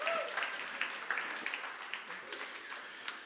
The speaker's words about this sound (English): Come on, give him a good clap offer, would you?